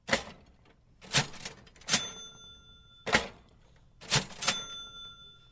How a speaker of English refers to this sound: What you will no longer hear anywhere is the sound of a mechanical cash register.